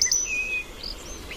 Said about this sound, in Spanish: Petirrojo europeo.